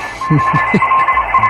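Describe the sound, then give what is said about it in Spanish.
Shortwave radio reception at night: a hiss of static with steady whistling carrier tones, and a few muffled, garbled voice-like bursts drifting underneath, all at a moderate, even level. “¿Tú sabes que en onda corta a veces pones por la radio por la noche y oyes cosas así?”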